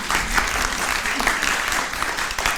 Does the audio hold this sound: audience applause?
yes